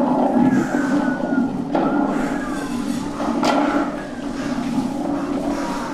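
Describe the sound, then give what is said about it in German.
A steady roaring storm rumble with thin wavering whistles of wind blowing around a castle, gliding up and down, broken by two sharp bursts of thunder cracking through the din. “Es blitzt und donnert und der Wind weht pfeifend um das Schloss.”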